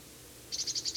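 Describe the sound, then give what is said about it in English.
A bird at the very top of a pine gives a type 3 call, a rapid series of high, bright chirping notes, about six in quick regular succession, starting partway through after quiet background hiss. “Can't quite see this bird. It's giving a type 3 call.”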